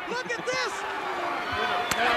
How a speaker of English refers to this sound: Look at this. I love hearing the slaps.